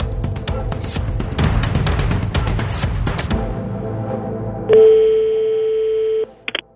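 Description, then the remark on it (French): A busy mix of music or noise fades out, then a steady electronic telephone tone sounds for about a second and a half, followed by a short beep, as a phone call is placed to an editor at the newspaper Le Monde. “Alors on va essayer d'équilibrer un peu les points de vue en appelant au téléphone”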